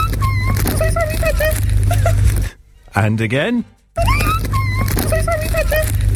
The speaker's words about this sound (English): It is a woman getting chased around the petrol station by a badger.